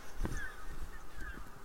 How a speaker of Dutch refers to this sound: En meeuwen. Brandganzen. Meeuwen.